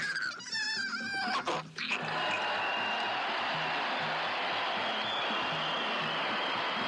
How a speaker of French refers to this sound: C'est bien. Arrêtez d'applaudir, c'est bien.